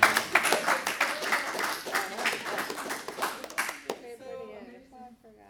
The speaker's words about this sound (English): We just got a hand for these five. There you go.